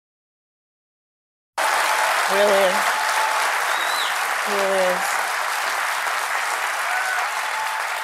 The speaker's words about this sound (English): And so the audience applauds, presumably because a sign lit up telling them to applaud.